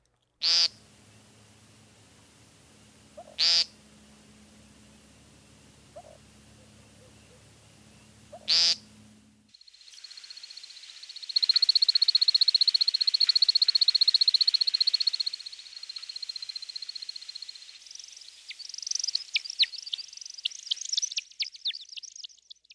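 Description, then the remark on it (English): An American woodcock gives three sharp, buzzy peents spaced a few seconds apart over a low frog chorus, then takes to the air, and high twittering sounds of his spiraling flight display, partly made by his wing feathers, take over, breaking into rapid chirps near the end. “Listen to the initial peenting phrases, followed by a remarkable series of airborne chips and chirps.”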